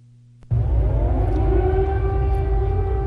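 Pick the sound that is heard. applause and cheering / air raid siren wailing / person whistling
air raid siren wailing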